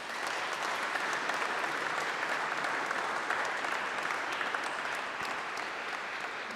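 Sustained audience applause in a church before a Holy Mass, thanking people and students, a dense steady patter of many hands clapping at an even level for several seconds, with no voices standing out above it.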